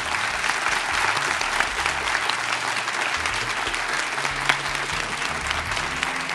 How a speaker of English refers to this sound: Can we get a round of applause for them, please?